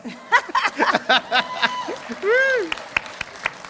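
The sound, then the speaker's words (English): A crowd claps and chuckles, with voices and a brief drawn-out vocal sound rising over the scattered applause before it thins to a few separate claps, as a volunteer is picked to lead the donkey carrying Mary and Joseph in a nativity procession. “You even get a round of applause before you even do anything.”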